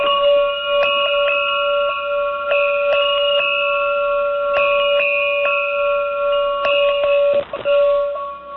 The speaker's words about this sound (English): So that is the sound. I don't know if you got that. We got it. You got that? That's a camel bell.